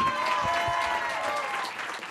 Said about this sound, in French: Et je voudrais les applaudissements, s'il vous plaît, mais très fort